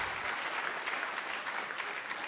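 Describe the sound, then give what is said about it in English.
An audience claps steadily in appreciation of event supporters National Science Week, the Centre for Public Christianity and the City Bible Forum, a dense wash of many hands applauding together at a fairly even level throughout, with no voices standing out. “This would not have been possible without the help and assistance of the National Science Week, the Centre for Public Christianity, and the City Bible Forum, and that is your opportunity to go absolutely wild with applause.”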